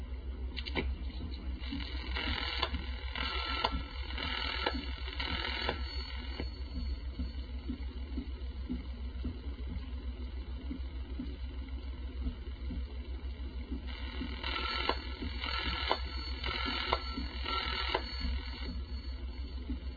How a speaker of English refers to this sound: That's because we're calling a party that has a quadruple ring. Notice also that the dial tone is different on this switching system than on the other 4 systems we've listened to. That's because the CX100 has its own tone generating plant.